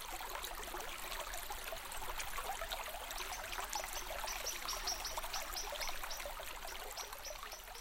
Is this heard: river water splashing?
yes